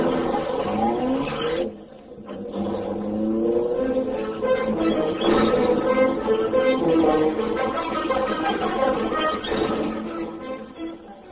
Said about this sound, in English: Britt Reed pressed a button. The great car roared into life. A section of the wall in front raised automatically, then closed as the gleaming Black Beauty sped into the darkness.